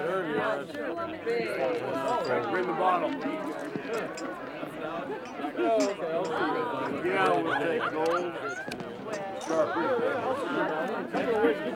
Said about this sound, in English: The poorly lit bar bustles with patrons.